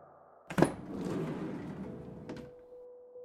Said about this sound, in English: The moment was cut short by the side door of the van sliding open